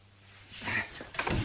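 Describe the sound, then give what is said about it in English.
A door swings open with a brief rushing creak, followed by a second short scrape as it settles, fairly quiet and heard on its own without talking. “Oh, leave the door open.”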